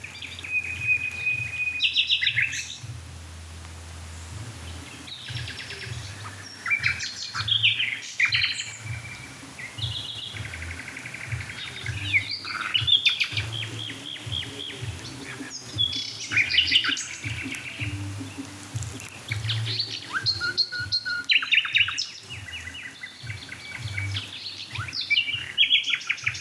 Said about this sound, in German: Die da mit dem Düt, Düt, Düt, Düt. Das ist die Hausnachtigall.